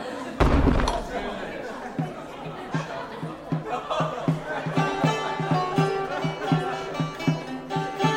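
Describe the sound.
A heavy hall door slams shut with one loud, booming thud near the start, followed by a steady murmur of voices and laughter in the echoing hall.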